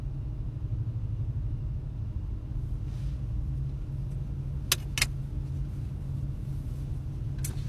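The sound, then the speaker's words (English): A steady, low engine rumble hums from inside a car standing still in traffic in a tunnel, with a few sharp clicks near the end and no voices. “I mean, technically, I'm operating a vehicle, but I'm operating it by making it stand still.”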